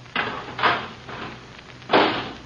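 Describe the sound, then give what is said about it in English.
A garbage can lid is fitted into place: three or four clattering, scraping clunks at uneven intervals, moderately loud, with no voices. “Okay, put the lid on.”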